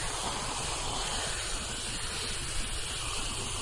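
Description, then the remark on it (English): Water is poured steadily onto Fred, a soapy dog, to work up the suds: a continuous rushing and splashing hiss that holds at an even level for a few seconds with no talking. “Okay, we're going to put a little water on it to get these suds up a little.”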